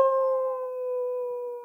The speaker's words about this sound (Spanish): La noche se había disipado ya, y el día iba iluminando la campiña. En la lejanía se oía el aullar de los lobos que regresaban a sus madrigueras.